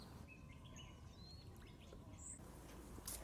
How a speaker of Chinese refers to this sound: 我们一直走，最后发现了这个池塘，那边有个大叔在捕鱼，站在这里能听到鸟叫声和流水声，感觉很舒服。